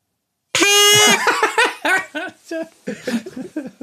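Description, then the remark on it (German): A loud, buzzy red toy horn blares once in a steady half-second honk, followed immediately by bursting laughter that trails off in choppy fits. “Ah, ist das die Tröte? Das ist die Tröte.”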